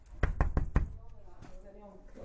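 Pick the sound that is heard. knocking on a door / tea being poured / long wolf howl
knocking on a door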